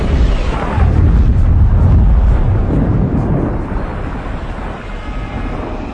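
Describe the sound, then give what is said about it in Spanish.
A deep, roaring blast of a suicide bomber's explosive vest going off in central Kabul, Afghanistan, rumbles loudly for several seconds, a heavy low boom that slowly fades into a long reverberating tail with scattered debris-like crackle, no voices present. “Este es el momento de la explosión en pleno centro de Kabul.”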